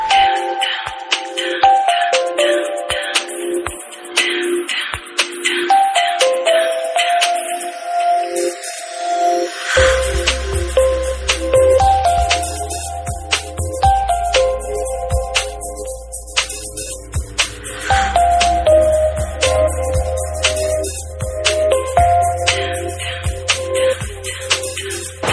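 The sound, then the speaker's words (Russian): A bright electronic Samsung Tune phone ringtone melody plays alone, with chiming repeated notes. Partway through, a deep bass line joins in and the tune loops steadily at a loud level. “Строчкой выше рингтон, который для меня, как для человека, никогда с Самсунгом не пользовавшимся, штука совершенно диковинная.”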